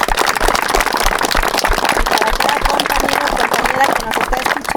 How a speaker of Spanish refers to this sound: Entonces pido un fuerte aplauso para Nango también.